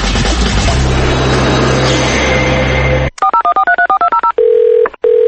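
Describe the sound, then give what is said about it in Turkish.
After a few seconds of steady rumbling noise, a rapid series of about a dozen touch-tone beeps dials a number, followed by a steady ringing tone that pauses briefly and resumes. “Salam, telefonu niyə götürmürsən?”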